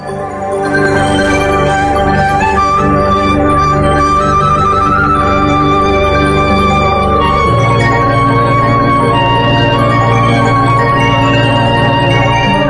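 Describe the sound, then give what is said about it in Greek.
A loud, sustained ERA 5 radio news bulletin bell chime jingle rings out with layered, resonant tones for over twelve seconds, its pitch shifting partway through, with no voices present. “Στο Δελτίο Ειδήσεων με τα καμπανάκια στην αργή της ΕΡΑ 5.”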